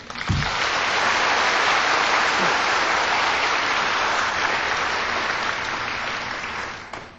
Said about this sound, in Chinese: 然后我们现在以热烈的掌声恭请师父为我们开示。